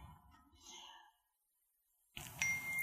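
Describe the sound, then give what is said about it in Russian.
The speaker's phone gives a notification ding during a talk, its bright tone clear and fading over about a second, followed by a brief silence and then a burst of louder room noise. “Такой грешный телефон, простите.”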